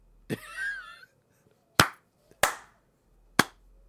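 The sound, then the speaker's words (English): A short spoken word, then three sharp, loud hand claps by two people testing the science of clapping, spaced roughly a second apart, each a single crisp smack with a brief quiet between. “So the science of clapping is if you clap at the same time I clap, you don't hear my clap.”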